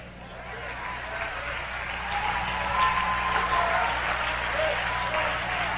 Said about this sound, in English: Now that's a poor hand clap. I want everybody to clap on that one.